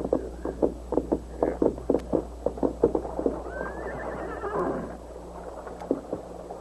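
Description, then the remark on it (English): Hooves clop in a steady rhythm for a few seconds as a man leads his white horse to a spring in the hills of southwestern Texas, then a horse gives a rising, quavering whinny before the clopping resumes more faintly against a low background hum. “A heavy-set, scar-faced bank robber and murderer named Buck Banner dismounted and led his white horse to a nearby spring.”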